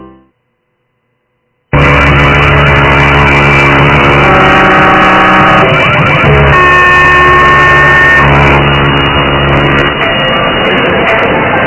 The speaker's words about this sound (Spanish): Alarmas, hay muchas.